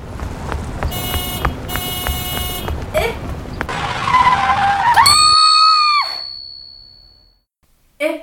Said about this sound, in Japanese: トラックが止まった。